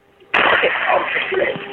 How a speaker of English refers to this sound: I just heard a gunshot. Go. Shots fired.